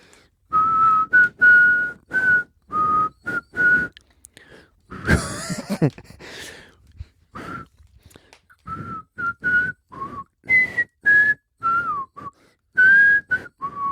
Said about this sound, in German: Ich pfeife mal nochmal.